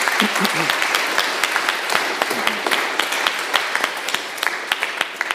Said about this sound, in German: Danke vielmals, vielleicht noch mal einen kleinen Applaus für eure Musik.